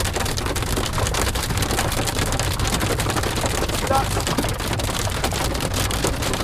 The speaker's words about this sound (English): suddenly these hailstones began falling on the car. And the noise, well, let's hear what it sounded like now.